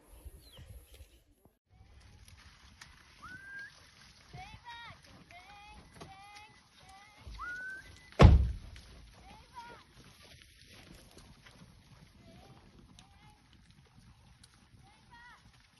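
Soft water sloshing and lapping from a massive tapir swimming across a lake, with one sharp, loud splash midway, while birds chirp steadily in the background outdoors.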